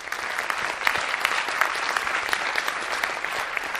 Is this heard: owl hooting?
no